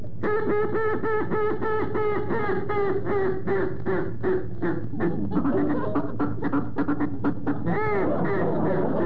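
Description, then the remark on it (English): A duck call blown to imitate a duck for hunting, in a rapid series of loud, raspy quacks, continuous for several seconds, with a longer drawn-out note near the end. “I'm going to blow in it and see if it sounds anywhere in there like looks a duck.”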